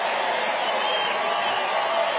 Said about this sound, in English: So you can hear the crowd.